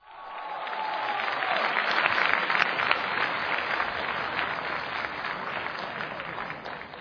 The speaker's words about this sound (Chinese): 谢谢大伙的掌声鼓励。 哎， 从您的掌声看得出来您喜欢相声。